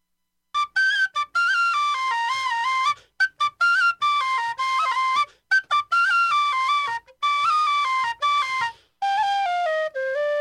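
A tin whistle plays a lively, bright melody up close, moving in quick stepwise runs and ornamented phrases broken by short pauses, with no voices or other instruments.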